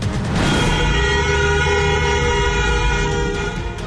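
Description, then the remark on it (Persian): Loud, continuous car horns blare together in a sustained, overlapping drone that never lets up, with no talking underneath, sounded on the 20th night of protests in Iran. “بوق‌های ممتد خودروها در 20 شب اعتراضات ایران.”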